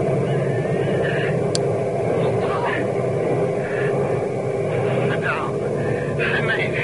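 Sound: airplane engine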